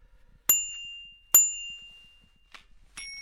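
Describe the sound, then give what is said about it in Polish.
A bicycle bell dings twice with bright, sustained metallic rings about a second apart, followed by two quicker, softer dings, clear with no talking. “Do niczego te dzwonki.”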